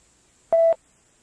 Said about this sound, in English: When you hear the beep, say the Japanese equivalent of the English on the right side of the page.